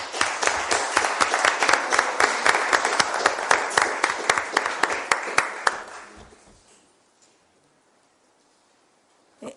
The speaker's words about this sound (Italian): Grazie mille di essere venuti, davvero grazie. Si meritano veramente un grande applauso.